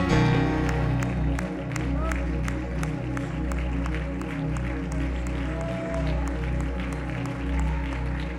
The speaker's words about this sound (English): And I want you to lift up your voice and clap your hands with all your might.